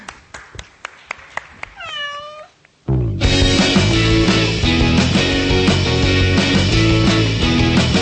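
A series of sharp ticking clicks leads into a single drawn-out cat meow, then loud, full music bursts in and continues to the end.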